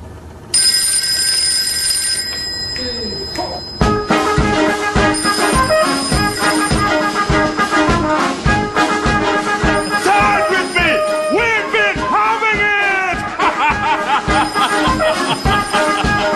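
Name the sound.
mobile phone ringtone playing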